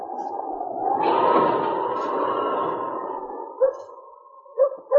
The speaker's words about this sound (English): When you get there, the dogs will start barking.